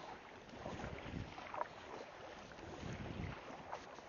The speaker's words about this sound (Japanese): 今ちょうどビーチをですね、カヤックの先端を引っ張って小走りにビーチの浅瀬を前に進みまして、波を越えてちょうど海に浮かんだ直後です。今漕いでます。パドルを漕いでます。